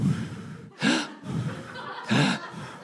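A person breathes audibly in and out, with two loud, breathy rushes of air about a second apart and softer voiced breaths between them.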